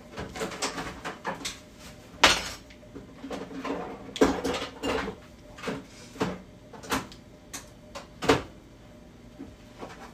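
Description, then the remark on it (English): Kitchen clatter while food is heated in a microwave: a few sharp knocks and thumps, like a microwave or cupboard door shutting, mixed with dishes rattling, spread irregularly over a quiet background. “This is not microwave for 2 minutes.”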